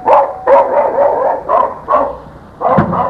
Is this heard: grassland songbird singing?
no